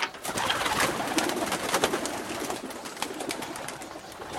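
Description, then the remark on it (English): A flock of homing pigeons coo softly amid a steady, busy wash of flock noise, with brief rustles and overlapping calls running throughout. “Recent research on flocks of homing pigeons has shed some light on this very question.”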